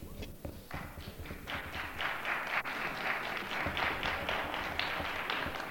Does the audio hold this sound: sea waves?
no